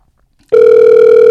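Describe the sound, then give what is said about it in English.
After a brief silence, a steady American telephone ringback tone starts abruptly and hums on at an even, loud level with a faint warble, heard alone with no talking. The call is to songwriter Bobby Hart. “It's an American ringtone.”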